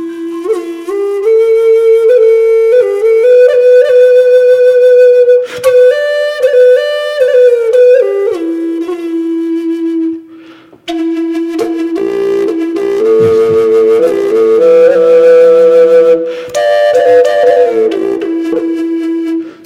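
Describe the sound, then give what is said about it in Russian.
A double wind flute plays two voices at once: a steady low drone held beneath a breathy, wavering melody line, loud and continuous with a brief pause near the middle. “Слышу, чтобы духовой инструмент сразу два голоса играл. А вот потому, что он двойной.”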